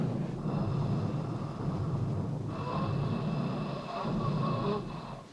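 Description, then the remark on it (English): Harsh, labored breathing rasps through a tracheotomy tube, loud, with long noisy, wheezing breaths rising and falling in a slow, continuous rhythm and no talking. “He's breathing. You hear that? He's breathing.”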